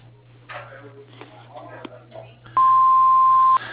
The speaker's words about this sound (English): Please leave your name, telephone number, and any message you wish after you hear the beep, and I will return your call promptly.